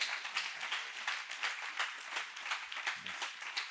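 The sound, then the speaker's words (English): A crowd claps hands for Jesus Christ in a dense, steady burst of applause, many hands overlapping into a bright, continuous patter that holds at an even level throughout, with no voices standing out. “Come on, let's clap hands for Jesus Christ.”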